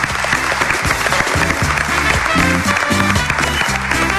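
Steady audience applause fills the whole four seconds, a loud, dense wash of clapping with sustained tonal notes sounding underneath it.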